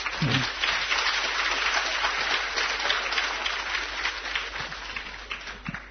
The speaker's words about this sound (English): why are you clapping? Dlaczego bijecie brawo?